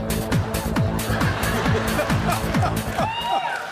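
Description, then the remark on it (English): Loud dubstep-style electronic music: a steady pulsing bass beat about twice a second, with sliding, wobbling synth sweeps layered over it and a rising whine near the end. No one speaks. “Is that dubstep or techno dub or acid techno?”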